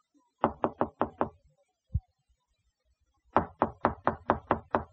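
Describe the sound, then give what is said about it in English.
Two bursts of firm knocking on a door by police: five quick raps, a short pause with a single thud, then a longer run of about eight insistent knocks, loud with no voices. “Mom, you gotta go to the door.”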